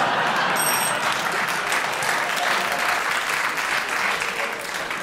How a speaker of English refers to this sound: Your round of applause there was for what you said, Clement, but you paused.